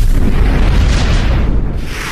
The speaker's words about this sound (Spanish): Al rato se hincha como un globo. Explota.